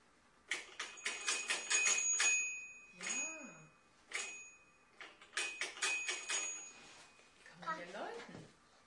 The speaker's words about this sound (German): Das ist die Kirche. Die Kirche ist das ja. Da ist oben auch eine Glocke, stimmt. Kann man da auch läuten?